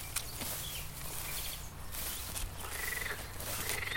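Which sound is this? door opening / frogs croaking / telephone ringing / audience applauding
frogs croaking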